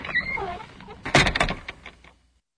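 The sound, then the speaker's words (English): A loose door that is falling off jolts and rattles, a cluster of sharp knocks and clatters following a softer scraping creak, then quickly dying away into silence. “Look, this door is falling off. It's so loose.”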